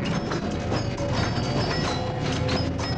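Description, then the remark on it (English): Horse hooves clip-clop steadily on 18th-century cobblestone streets, with carriages, in a continuous rhythmic patter, loud, over a dense rumbling background of wheels and street noise. “From the 18th century cobblestone streets, with the horse and the carriages to rest our feet”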